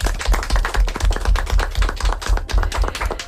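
A group applauds, a dense, steady patter of overlapping claps that keeps an even loudness for about three seconds, with no voices over it.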